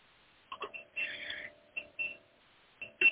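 A machine in a church beeps in short, uneven bursts of mid-to-high electronic tone, with one longer stretch, over a faint steady hum. No one speaks.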